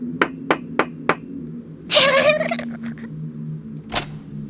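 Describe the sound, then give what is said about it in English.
Four sharp, evenly spaced knocks on a house door on Halloween for trick or treat, followed by a brief higher-pitched, warbling sound and then one more lone thump, over a low steady hum. “Let's knock on the door.”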